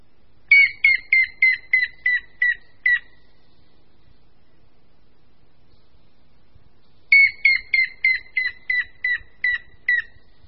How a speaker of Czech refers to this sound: A následuje pokřik žluny šedé.